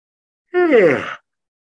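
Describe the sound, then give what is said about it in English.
A single drawn-out yawn from one person, a breathy vocal sound that slides downward in pitch over less than a second, with silence before and after. “I got me yawning a lot tonight.”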